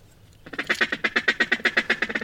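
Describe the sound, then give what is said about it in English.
A rapid, evenly paced run of about a dozen loud, nasal quacks from a duck call, clear, starting after a brief quiet moment with no talking. “Now I'm looking around to see if I can see any ducks and kind of get an idea of what they're doing and what call to use when I see them.”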